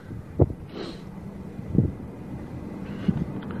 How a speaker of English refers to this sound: Windy tonight. Feels like rain, though it may not.